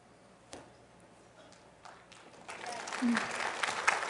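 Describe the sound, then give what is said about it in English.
A few scattered claps come first, then a crowd joins in and the applause swells into a dense, steady patter that grows louder toward the end. “You can clap for that.”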